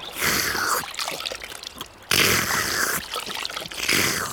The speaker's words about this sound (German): Benjamin und Otto stehen auf und waschen sich in einem kleinen Bach, der sich nahe beim Stall durch die Felsen schlängelt. Ist das kalt, das Wasser.